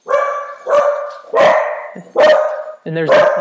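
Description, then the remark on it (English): Dogs bark loudly, five sharp, resonant barks in steady succession, each ringing out briefly before the next one starts. “And there's the dogs agreeing with me.”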